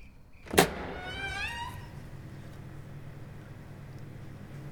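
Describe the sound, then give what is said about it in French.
A window shutter outside bangs once with a sharp, loud clap, followed by a brief high, wavering creak as it swings, then a steady low rumble continues underneath with no voices. “Oh, imbécile, c'est juste le volet dehors qui claque.”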